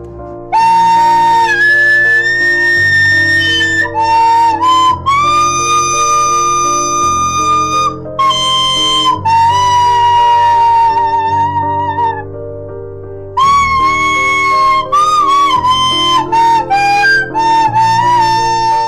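Several tin whistles played by children perform Ave Maria together, a slow, sustained melody, loud, with long held notes, a brief pause near the middle, and no talking.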